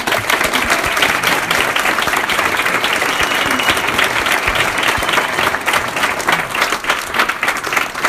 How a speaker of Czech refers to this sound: Takže dámy a pánové, já bych vás teď požádal, kdybychom mohli společně zatleskat, aby nám to pak v průběhu show šlo zcela automaticky. Ano, prosím, 3, 2, 1, teď.